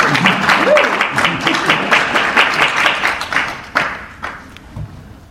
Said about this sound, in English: So let's give her a round of applause.